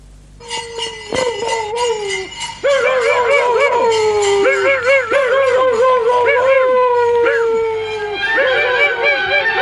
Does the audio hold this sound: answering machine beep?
no